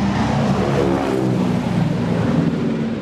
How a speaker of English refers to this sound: And here comes another plane flying by.